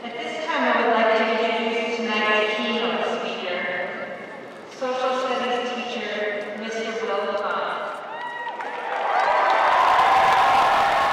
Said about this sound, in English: The graduates cheer on